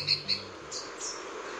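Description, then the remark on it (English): A Santa Marta sabrewing, a rare hummingbird species native to the mountains of Colombia, calls with two sharp, high chirps in quick succession, then two softer, slightly lower chirps follow over a faint low hum. “The Santa Marta saberwing is a hummingbird species so rare, they've only been documented twice in recent years.”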